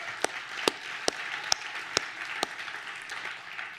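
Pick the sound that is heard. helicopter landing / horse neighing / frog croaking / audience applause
audience applause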